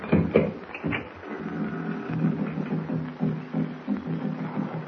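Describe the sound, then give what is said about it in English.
Distant Narwan tribe tom-tom drums beat in a low, muffled, steady rhythm, a dull throbbing pulse that repeats throughout with no voices over it. “Hear that? I hear some drums off in the distance. Narwan tom-tom. That's what they are.”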